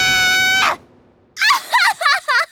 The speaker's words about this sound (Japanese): いい叫び声だ。